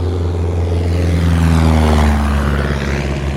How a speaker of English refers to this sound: Oh, look, there's a plane coming by. See it? Where is it? Where is he? Oh, he's right behind me. Look at that. You guys see him? Ah, there he is. See? There's a plane coming right behind me.